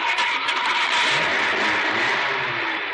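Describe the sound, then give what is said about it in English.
A car engine cranks and catches as the key is turned, then runs with a steady, loud mechanical roar and rumble, continuous for the whole stretch with no voices. “Okay, now start the car.”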